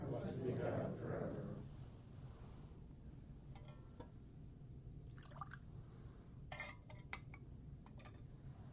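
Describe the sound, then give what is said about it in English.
A brief splash of water and wine being poured into a metal chalice, followed by quieter trickles and a few light clinks of metal and glass against a low background hum. “For the mystery of this water and this wine, may we come to share in the divinity of Christ, who humbled himself to share in our humanity.”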